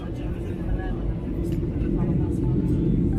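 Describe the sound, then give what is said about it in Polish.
Steady, dense low rumble of an airplane cabin during the landing approach to Modlin, with a person talking quietly over the constant engine and air noise. “W końcu lądujemy na polu prawie, że.”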